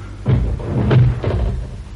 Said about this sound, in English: Shut that door, will you?